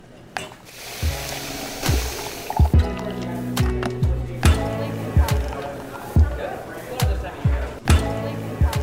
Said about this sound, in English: Okay, those are coffee shop sounds. Pouring the cup, the sound of conversations, music, laughter.